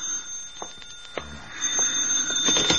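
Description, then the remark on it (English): A telephone rings in the radio drama I Was a Communist for the FBI, a steady, shrill bell tone that holds throughout, growing slightly louder toward the end, with a few soft clicks and thumps underneath and no one speaking. “You'd better answer the phone.”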